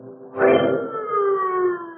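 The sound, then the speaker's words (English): Sirens wail loudly after a brief quiet start, their sustained, slowly gliding tones holding steady for the rest of the moment, with no voices present. “The sound of the sirens howled in his ears like the wail of an avenging demon as the man ran from the gaunt gray building behind the high wall.”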